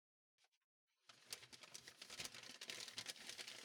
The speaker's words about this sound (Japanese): 新聞紙を引いてっと。